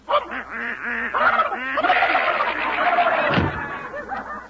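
Ducks quack and squabble in a pantry in a loud flurry of overlapping harsh calls and squawks, continuous throughout, with a brief thump partway through as the fight goes on.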